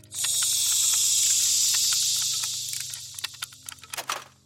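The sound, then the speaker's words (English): Steam hisses from a leak in the neck of the mechanical Mr. TikTok: a loud, steady hiss lasts nearly three seconds, then tapers into short sputtering bursts and clicks, with a low mechanical hum running underneath throughout. “Steam began hissing from his neck for a moment before his unknowable mechanisms within corrected the leak.”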